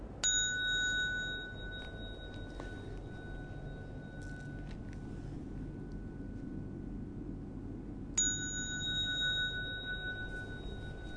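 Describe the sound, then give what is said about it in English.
A bell is struck twice during bowing practice, about eight seconds apart, each strike leaving a clear, steady ring that lingers for several seconds over a quiet, low background hum. “Then you wait for the next bell.”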